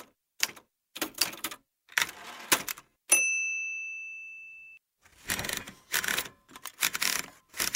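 Bursts of mechanical typewriter keystrokes clack in quick clusters, then a bright carriage bell rings and fades slowly before the rapid typing resumes, with no voices.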